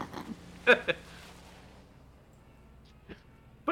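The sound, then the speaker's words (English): A few short, bleating cries of rams or sheep, a close pair at first and two more after a quiet pause, heard against a faint low background hum. “it's those rams. The turkey's going to drive. I like the sheep are like, oh, well.”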